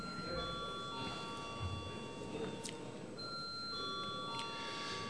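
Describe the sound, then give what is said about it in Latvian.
A parliamentary bell rings steadily before a vote on whether to re-vote a proposal on a draft law's title, a sustained electric tone with bright overtones droning on with only small shifts, set against a low background murmur. “Pat cik runāt neviens nav pieteicies, tad lūdzu zvanu.”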